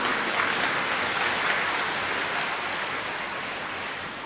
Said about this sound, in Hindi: ठीक है, क्या करेंगे अभी, ताली बजाएंगे।